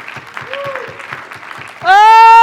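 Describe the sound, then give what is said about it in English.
A church audience claps in a steady rhythm during worship amid crowd noise and scattered shouts, then a loud, sustained voice rises in a long held shout over the clapping. “Somebody clap your hands and just shout a little bit now.”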